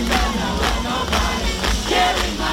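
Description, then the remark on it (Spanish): A huge outdoor crowd of about 2,100,000 people roars continuously at a a singer's concert on the beach in Rio de Janeiro at night, a loud, dense wash of cheering with rhythmic surges roughly every half second, like mass chanting or clapping. No single voice stands out. “Así se escuchaba un poquillo el ambiente anoche en la playa de Río de Janeiro.”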